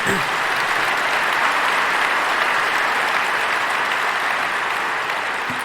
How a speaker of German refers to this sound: Und Applaus. Applaus.